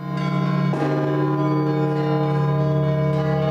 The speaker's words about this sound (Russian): Есть здесь и подставка для телефона, чтобы звонарь всегда был в курсе того, какой момент службы сейчас происходит, и вовремя ударил в колокола.